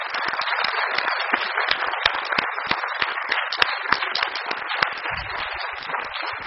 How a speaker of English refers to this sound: So thank you very much for accepting this invitation. And I think we can applaud them.